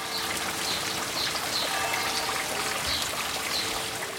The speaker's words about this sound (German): Ein Wasserlauf durchteilt den Garten, der von Missionaren angelegt wurde.